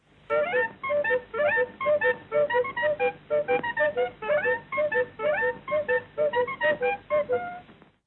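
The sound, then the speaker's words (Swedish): A bright Hemglass ice cream truck jingle composed by Georg Riedel plays alone, a steady run of short, clipped melodic notes repeating in a bouncy rhythm, slightly tinny and fairly loud throughout. “Men det är alltså Georg Riedel som har komponerat den här glassbilsmelodin.”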